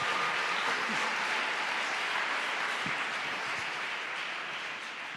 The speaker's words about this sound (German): Komm, lass uns mal Jesus einen Applaus geben dafür, dass er so einen Plan hat.